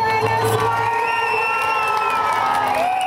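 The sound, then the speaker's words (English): A large crowd cheers and shouts continuously at an opposition rally in Caracas, Venezuela, demanding an end to Maduro's presidency: a dense roar of many voices with whoops and high calls rising above it, loud and sustained throughout. “Opposition rallies here in Caracas have been massive.”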